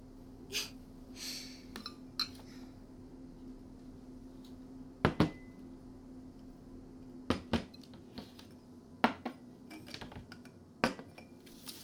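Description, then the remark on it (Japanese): A piping hot pot of nabeyaki udon noodles is set down and served: scattered sharp clinks and taps of earthenware and utensils, fairly quiet, over a low steady hum with soft breathing. “お待たせいたしました。熱々鍋焼きうどんでございます。”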